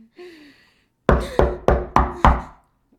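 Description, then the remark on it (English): Five firm, evenly spaced knocks on a door, loud, in a steady rhythm, preceded by a faint, thin tonal whine and then silence. “I wonder who that could be. Answer the door.”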